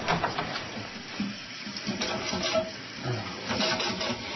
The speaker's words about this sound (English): The toilet's running again. Okay. I'm on it.